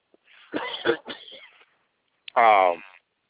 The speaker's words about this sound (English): While you're clearing your throat,